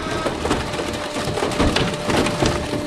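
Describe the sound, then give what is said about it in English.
A car being crushed at a scrapyard: dense, continuous crunching and splintering with sharp cracks throughout, over a steady mechanical hum, loud and unbroken for the whole stretch with no voices. “This car being crushed has a vehicle ID, but copper wiring rarely has distinguishing marks.”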